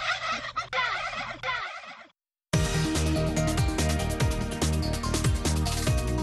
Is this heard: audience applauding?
no